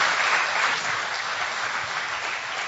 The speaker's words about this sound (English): Can we give God the best clap offering of praise? Come on! Thank Him!